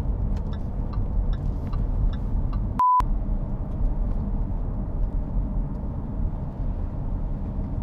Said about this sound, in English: As I've said, and I'll say it, I think it sounds the best out of any car I've driven.